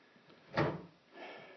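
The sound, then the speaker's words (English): A door is pushed shut with a single solid clunk as Cratchit closes it when told to, followed by a softer, brief scraping rustle. No voices are heard. “Close the door.”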